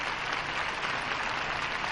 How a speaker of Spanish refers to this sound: Hay que decir que creo que la gente se está comportando también de una manera admirable porque de manera colectiva se están sabiendo administrar los sentimientos. Y ahora rompen otra vez en aplausos. Y otra vez en aplausos, efectivamente.